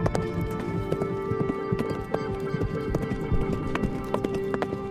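Horse hooves gallop in a quick, steady rhythm of clip-clop beats, fairly loud, over a constant background hum with no talking.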